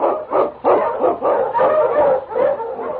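Several husky sled dogs in the Yukon bark excitedly in a rapid, overlapping chorus, with yips and yelps running continuously at fairly loud volume, no voices heard.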